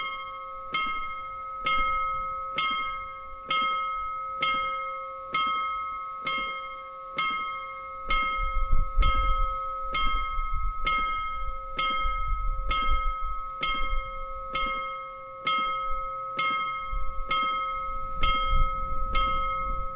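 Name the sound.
bell ringing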